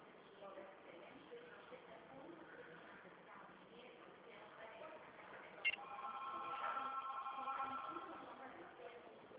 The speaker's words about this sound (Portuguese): Eu vou digitar o número dele de novo. O número do código ou o número do telefone? Número do telefone.